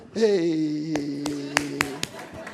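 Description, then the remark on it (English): About five sharp hand claps ring out at an uneven pace over a drawn-out vocal sound, the claps crisp. “So everyone should clap for you.”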